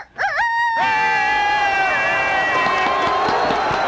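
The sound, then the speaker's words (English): A hen crows in one long, strained call that rises sharply at the start, then holds a loud, reedy, harmonic tone for several seconds before wavering at the end. “All right, here's your crowing chicken.”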